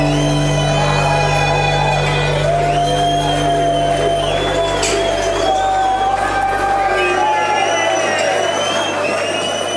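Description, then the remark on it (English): A loud, rowdy drinking crowd cheers and shouts continuously, many voices overlapping in a dense roar with rising and falling yells cutting through for the whole stretch. “Hell yeah, I think I found a drinking crowd.”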